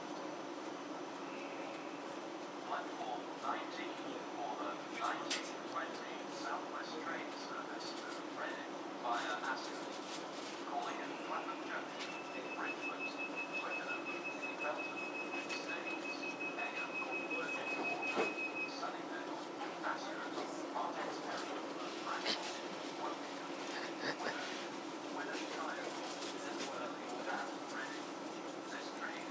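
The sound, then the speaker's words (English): A constant electrical hiss fills a moving train carriage over a low steady rumble, with scattered clicks and knocks, faint indistinct voices, and a thin high whine that holds for several seconds midway. “I think the sort of hissy noise that you can hear in the background, or sort of electrical hissy noise, is the same thing for this kind of train.”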